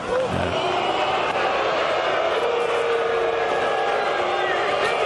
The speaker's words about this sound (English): And on another occasion, when Rory McIlroy was on the putting green, the crowd reacted badly when he refused to take his putt until they quietened down. Here's how Sky Sports covered it.